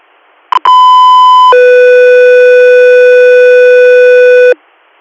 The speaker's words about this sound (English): Stand by for tones.